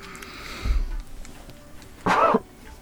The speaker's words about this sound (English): You cough into your the crook of your arm like some kid that's been at school during COVID.